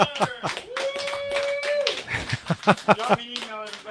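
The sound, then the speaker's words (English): Audience applause in a room after David Duke is introduced: a run of sharp, uneven claps, moderately loud, mixed with voices calling out and a sustained whooping tone partway through. “Hey, a big round of applause, everybody in the room tonight.”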